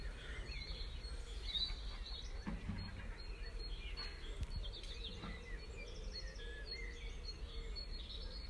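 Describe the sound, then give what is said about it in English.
Birds sing outdoors in the late evening, with scattered chirps and warbles over a steady low rumble of busy human activity in the background. No one speaks. “I'll just leave you with the late evening's bird song and some bit of busy human activity in the background.”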